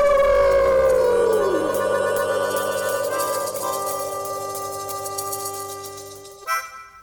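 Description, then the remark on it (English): Several voices howl together like wolves, howling at the Moondog at the end of a segment of the Moondog Show, a long sustained wail with a sliding, wavering pitch that slowly fades before cutting off with a brief burst at the end. “So we're going to howl at the Moondog. Ready? All right. 1, 2, 3. Ow!”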